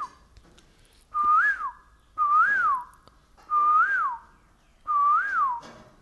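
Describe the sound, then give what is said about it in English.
A person whistles an imitation of the call of the koel (Kokil), a bird heard in Navadvip, four times in a steady rhythm, each note rising then dipping in pitch, loud and clear with no talking. “Where in Navadvip we hear the Kokil, and he'll say, oh.”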